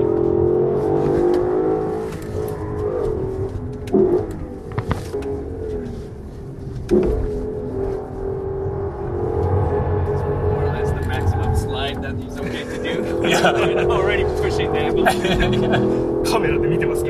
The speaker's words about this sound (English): I record what happens next on my phone. Oh yeah, baby! One of the top 10 moments of my life. Oh wow. Some serious drifting.